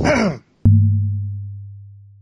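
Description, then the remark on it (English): A single heavy, breathy exhale into the microphone, followed after a short pause by a sharp knock and a low humming tone that slowly fades away. “There is some heavy breathing noise.”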